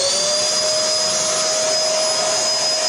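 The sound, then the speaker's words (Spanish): A vacuum cleaner runs steadily and loudly, its motor producing a constant high-pitched whine over a broad rushing roar, with no pauses or talking. “Acá está mi aspiradora.”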